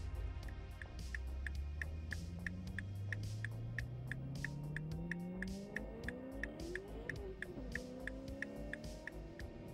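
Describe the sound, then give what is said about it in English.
A car engine accelerates steadily, its low hum climbing in pitch for several seconds before easing off, with a faint, regular ticking about twice per second throughout. No one speaks. “Hey, which model is this car again?”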